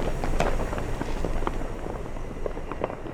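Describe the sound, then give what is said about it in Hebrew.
Fireworks crackle and pop in a dense, continuous barrage, with several sharper bursts standing out over a steady rumble of explosions. No voices. “זיקוקים.”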